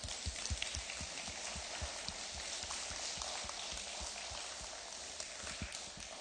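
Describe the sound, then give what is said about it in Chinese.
A crowd claps steadily in thanks to God, a dense crackling wash of many hands with sharper individual claps standing out, holding at an even level for several seconds with no voices. “好吧，我们请拍手感谢我们的神。”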